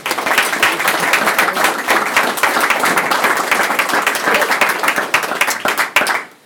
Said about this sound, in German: Das hast du aufgenommen, ne? Nur den Applaus.